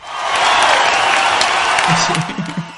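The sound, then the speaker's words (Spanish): An audience applauds, a dense, steady wash of clapping with a few cheers, fading slightly as a man's voice starts speaking over it near the end. “Espera, un aplauso, ¿no? Sí.”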